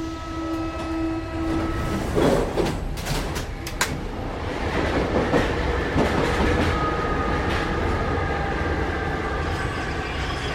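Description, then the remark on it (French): A Paris metro train runs on its rails with a loud, steady rumble, a burst of clattering wheel clicks partway through, and a thin, sustained whine over the noise. No one speaks. “Et puis à Paris, il y a aussi cette histoire, vous allez nous aider à l'éclaircir, on aurait entendu des grillons dans le métro parisien.”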